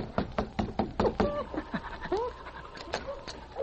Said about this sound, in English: the two Mounties knocked on the door of Hazel's boarding house